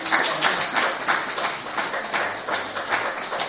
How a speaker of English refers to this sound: Celebrate the harvest festival. That's it. Brilliant. Let's have a quick round of applause.